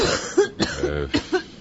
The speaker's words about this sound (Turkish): Amma kötü öksürüyorsun be bacım. Günlerdir böyleyim